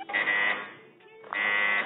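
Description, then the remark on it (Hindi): Two loud, harsh electronic buzzes sound in quick succession, each a flat raspy tone lasting about half a second, separated by a brief pause: a quiz buzzer pressed twice by a contestant who buzzes in first to answer. “जी आपने पहले बजर दबाया, आप जवाब दीजिए।”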